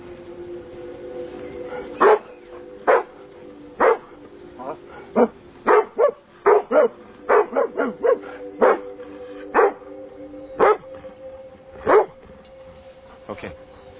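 Dogs bark repeatedly, about fifteen sharp, loud barks coming in irregular bursts, some in quick pairs, over a steady low background hum.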